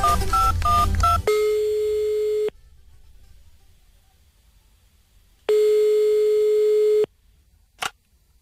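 A rapid run of touch-tone dialing beeps, followed by two long steady ringback tones separated by silence, then a brief click as the call connects. No voices are heard.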